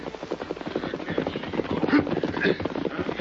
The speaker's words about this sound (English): The outlaw band camped in the hills. Their leader, a man named Varley, waited as a horse and rider galloped in from the east.